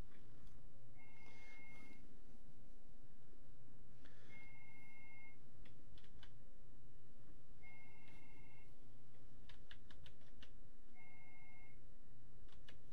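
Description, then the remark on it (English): A telephone line rings repeatedly with incoming calls, four electronic ring bursts at steady intervals of about three seconds, with a low background hum and scattered clicks between rings. “I'm sorry, I'm playing with these phone lines. I keep getting calls, but none of them are going to the phone line that I'm mentioning.”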